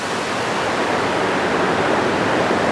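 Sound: river water flowing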